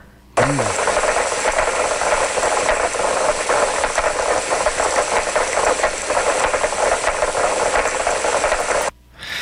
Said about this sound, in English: The carpenter fish is actually a sperm whale, and those clicking that they do is a chorusing that they hang out together and they click like that.